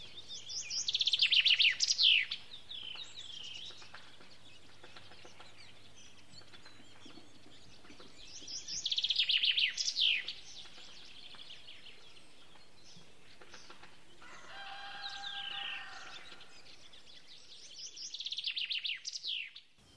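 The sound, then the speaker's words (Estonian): A common chaffinch sings in a spring forest, repeating short bright descending song phrases every few seconds. The song is clear, with quiet outdoor ambience between phrases. “Fringillat seleps, metsvint vilistaja.”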